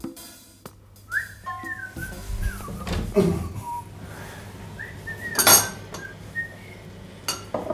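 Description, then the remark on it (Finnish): Dishes and cutlery clink and clatter at irregular moments as a table is set for morning coffee, while someone whistles a wandering tune over the top. No one speaks. “pöytä on katettu.”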